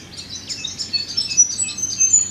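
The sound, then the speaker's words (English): A dawn chorus with an Eopsaltria robin's repeated far-carrying 'choo, choo' calls among many overlapping high chirps and tweets from several birds, a steady busy twitter over a soft low background hum. “And it's not hard to pick them out from the crowd too, because the tone of the choo, choo carries really far.”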